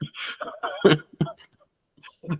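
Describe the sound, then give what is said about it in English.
Several harsh, irregular coughs burst out over a couple of seconds, some rough and breathy, others with a throaty voiced edge, separated by brief pauses. “And there you go, coughing again.”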